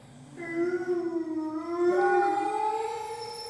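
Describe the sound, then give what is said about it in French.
A dog in a well howls in a long, drawn-out, siren-like wail that rises slightly partway through, steady for a few seconds, with no talking over it. “Alors pourquoi il aboie comme ça?”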